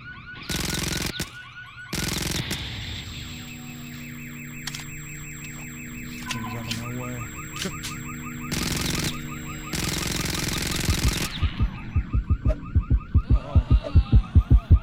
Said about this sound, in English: So I've popped a lot of cars all around you. And their alarm will go off every now and then.